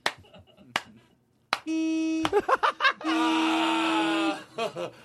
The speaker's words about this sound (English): Yeah, listen to her dumb horn. She thinks she's a truck driver.